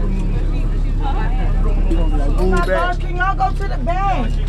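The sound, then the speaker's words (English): Inside a packed city bus as a stream of students boards, a steady low engine rumble runs beneath a busy babble of many overlapping voices chattering, with no single speaker standing out. “The bus is packed, and we just passed a lot of students on the bus stop.”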